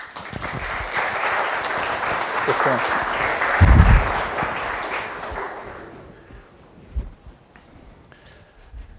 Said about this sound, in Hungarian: Köszönjük őt egy tapsal.